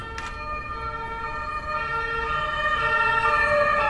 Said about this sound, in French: Le bruit de la police, ça me rappelle NCIS.